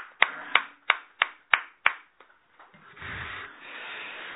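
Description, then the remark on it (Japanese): Applause for a worshipper's 92nd birthday at a Konko faith morning service in Okinawa on March 1: six sharp, loud claps in a steady, even rhythm ring out, then fade into a softer, continuous wash of scattered applause. No one speaks. “満92歳を迎えられましたので、盛大な拍手でお願いいたします。”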